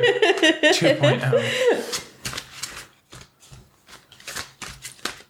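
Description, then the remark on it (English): Tarot cards being shuffled: a string of crisp, papery riffles and flutters in irregular bursts, following a brief stretch of voices and laughter at the start. “So if you are shuffling.”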